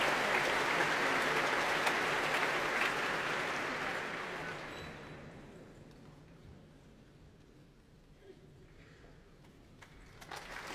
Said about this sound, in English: Well, that applause is for the leader of the BBC Symphony Orchestra this evening, Stephen Bryant.